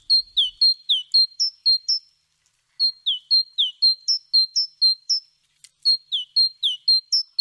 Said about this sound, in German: Dabei wurde die Kohlmeise mit Abstand am häufigsten gesichtet. Ihren Gesang konnten sie übrigens gerade hören.